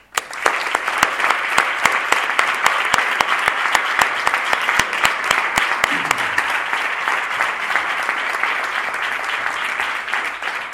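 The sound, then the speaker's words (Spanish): Sustained audience applause at the seventh Bienal de Arte Flamenco de Málaga, for its director Antonio Roche, a dense steady patter of many hands clapping at an even loudness throughout, with no one speaking over it. “la labor maravillosa que realiza el director de la Bienal de Arte Flamenco de Málaga, Antonio Roche, en el que yo, de verdad, espero que le dé un fuerte aplauso”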